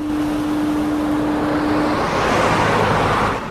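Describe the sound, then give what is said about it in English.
A car drives by a lighthouse with a steady, loud engine rumble and road hiss; a low humming tone holds for the first two seconds, then the sound brightens and swells slightly as it passes. “Unaware of the women, Helen drives on, passing by the lighthouse.”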